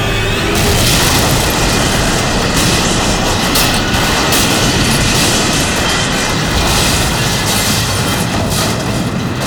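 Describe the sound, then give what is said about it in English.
A subway train derails after a flatbed jams under its front wheels and piles up in a tunnel, folding on itself: a loud, continuous roar of grinding, rumbling metal and heavy booming impacts that keeps going for the whole stretch, with no voices. “The subway train piled up in the tunnel, folding on itself in a rolling wreck that filled the passage ahead.”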